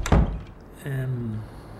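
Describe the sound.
A door shuts with one solid, low thud at the start, followed after a short pause by a brief voiced sound from a person, gliding downward in pitch.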